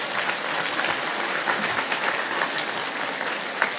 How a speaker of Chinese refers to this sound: 鼓掌